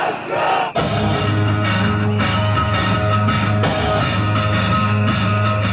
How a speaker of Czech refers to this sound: Čiji grad, naš grad, i na osmom protestu u organizaciji inicijative Ne davimo Beograd bila je glavna poruka vlastima i pravosuđu koje nije procesuiralo naredbodavce i izvođače rušenja u izbornoj noći u Savamali.